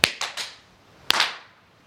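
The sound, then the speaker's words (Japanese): Sharp ritual hand claps at Goshrine 五穀神社 in Chuo Ward, Niigata City, Japan, on New Year's Day 2009, part of the two bows, two claps, one bow shrine visit: three crisp claps in quick succession, a brief pause, then two more. Each clap rings out with a short lingering tail, and no one speaks. “よし、二礼二拍手一礼。まあこれはあの神社の参拝の基本でございますけどね。”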